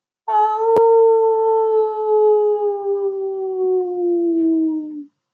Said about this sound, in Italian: Guardò in alto e ispirò forte. Poi ululò alla luna.